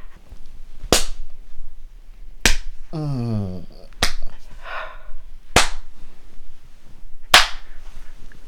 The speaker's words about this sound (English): Oh, your butt is made for spanking. Feels so good when my hand slaps against your ass cheeks and the redness that comes on your skin.